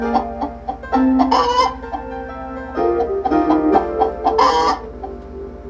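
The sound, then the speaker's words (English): Several chickens cluck and squawk, with a few overlapping bursts of busy, uneven calls and a brief crow-like note rising above the flock. “These are chickens. Male chickens are called roosters, and female chickens are called hens.”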